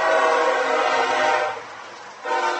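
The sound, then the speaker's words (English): A CSX freight train barreling through behind Booster Field during a football game blares its horn loudly in a long sustained blast, dips briefly, then sounds again, with no voices. “And here's one of those CSX trains barreling through behind Booster Field at the moment.”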